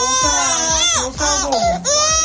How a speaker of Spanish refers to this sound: Bebés llorando mientras la enfermera les administra una vacuna. Son pocos los que pasan el trago sin soltar un grito o unas cuantas lágrimas.